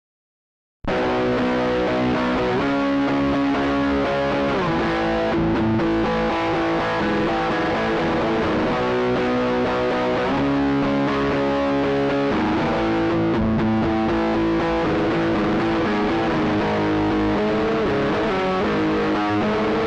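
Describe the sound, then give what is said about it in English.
A heavily distorted electric guitar played through a Sense Amp Classic amp simulator used as a distortion box, loud sustained chords and riffs continuously for about twenty seconds, with a thick, saturated, fuzzy tone and no voices. “It's technically an amp simulator with tons of knobs and switches, but … used it mainly as a distortion box, both live and in the studio.”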